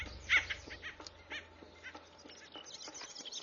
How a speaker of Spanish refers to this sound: El carpintero vigía suena la alarma.